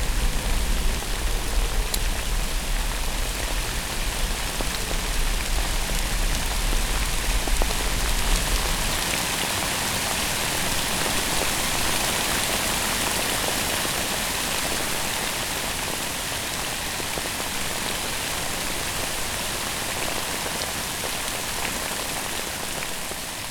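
Steady, dense rain pours down continuously, a constant hiss of drops on a hard surface with no voices, and a low rumble underneath that fades out after the first few seconds.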